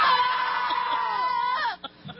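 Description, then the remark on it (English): A person lets out one long, loud scream, held steady for nearly two seconds before the pitch sags and breaks off, with no other voices. “that's very disturbing. What's going on? You know, the only thing better than listening to that is watching it.”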